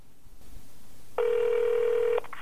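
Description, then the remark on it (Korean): A telephone call being placed by a North Korean defector to a fellow defector, to ask about unemployment benefits: faint handling noise, then a single steady, buzzing ringback tone lasting about a second, followed by the start of another short ring. No one speaks. “일단 실업급여가 있다는 걸 알려준 동료 탈북자에게 전화를 해서 물어보기로 합니다.”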